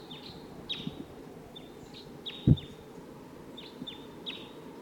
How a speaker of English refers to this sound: Birds closer now, I think. And the decoys are really calling a lot. This is bird 85. Bird. I don't see it. Wild bird.